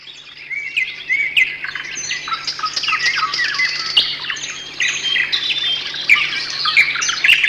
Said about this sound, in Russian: Не будем мешать нашей птичке. Пусть поет.